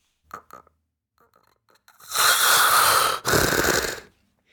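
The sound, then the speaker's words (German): A voice imitates snoring as the airway collapses: a couple of short vocal sounds, then a loud, raspy, rattling snore held for about two seconds, broken by one brief pause before it stops abruptly. “am Anfang vibriert es noch und irgendwann klappt der Atemweg zusammen wie so eine weich gekochte Nudel.”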